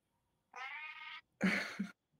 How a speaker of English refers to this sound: Yeah. This is the cat noise show.